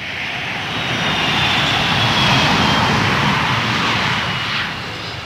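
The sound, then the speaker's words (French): A steady, loud airplane engine drone in flight, a broad continuous roar with a faint whine on top, holding level throughout and easing slightly at the end. No voices. “Nous sommes partis en avion le lendemain.”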